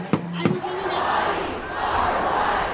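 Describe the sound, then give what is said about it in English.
A large crowd of protesters downtown roars and shouts in a sustained, dense wash of voices, with a couple of sharp knocks at the start, the chanting swelling and staying loud throughout, at an evening abortion-rights protest against a Supreme Court decision. “And it drew large crowds downtown well into the evening.”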